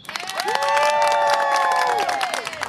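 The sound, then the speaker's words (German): An audience at a Bücheralarm book reading bursts into loud, steady applause so the author will read more, the dense clapping joined by sustained high cheers and whoops that swell and then fade after a couple of seconds. “Dann hätte ich jetzt an dieser Stelle gerne einen spontanen Applaus vom Publikum.”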